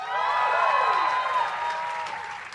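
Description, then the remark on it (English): A live audience claps steadily in a sustained burst of applause as comedian Todd Barry is introduced, with some cheering mixed in, holding strong before easing off slightly at the end. No one speaks. “It's a very respectable size crowd, though.”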